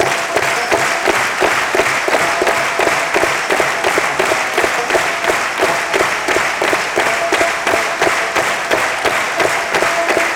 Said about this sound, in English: Now clap me some rhythm just as fast as you can.